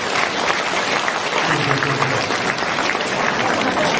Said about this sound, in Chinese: 让我们再次用掌声感恩卢台长的慈悲